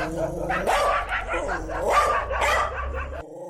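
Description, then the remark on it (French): Several dogs belonging to a butcher in the Galabadja 5 neighbourhood of the 8th arrondissement bark repeatedly in overlapping bursts, loud, with a few higher yips mixed in and a steady low hum underneath. “Ces chiens qui aboient appartiennent à Antonio Dicota, boucher à Galabadja 5.”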